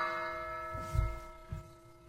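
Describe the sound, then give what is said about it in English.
A church bell at St. Joseph's Catholic Church in Dover, Ohio rings with a sustained, shimmering resonance, its tones hanging steadily while a couple of low, dull strikes thud underneath about half a second apart. No one speaks. “This is one of the church bells ringing at St. Joseph's Catholic Church in Dover, Ohio.”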